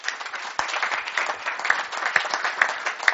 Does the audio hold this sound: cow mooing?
no